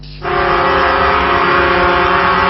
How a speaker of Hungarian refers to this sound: Fülsiketítő dudálással adnak hangot elégedetlenségüknek ezek a spanyol fuvarozók. A több száz kamion csigatempóra lassította az egyik Madridot elkerülő körgyűrűt.